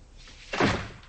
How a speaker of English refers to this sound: She shuts the door, locks it, then pulls back the curtain over the window near the door and watches.